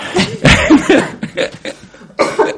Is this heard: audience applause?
no